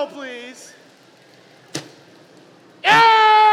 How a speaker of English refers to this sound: Now, what that's doing is it's shooting a ring of air. And I'm going to use that ring of air, and I'm going to knock that cup off your head.